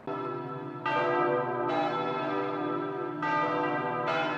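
Church bells in Germany peal loudly and continuously after a national election, signaling a change of German leadership, with fresh strikes arriving every second or so over a rich, sustained ringing that fills the whole clip, with no voices present.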